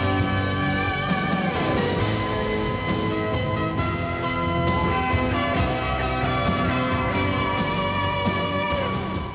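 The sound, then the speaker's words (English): Big bells ring in a dense, continuous peal, their overlapping tones sustaining and blending throughout at a steady, loud level with no talking. “Radio Netherlands, the station with big bells.”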